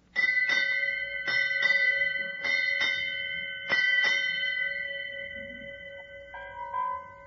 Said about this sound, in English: It's time to change the watch. Will you strike 8 bells, mister?